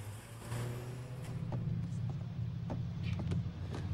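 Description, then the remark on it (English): Inside a bright yellow school bus, a steady low engine rumble drones throughout, constant, with scattered faint clicks and rattles over the top and no voices. “jumps aboard the bright yellow Plover Prep School bus and takes a seat by himself next to the window.”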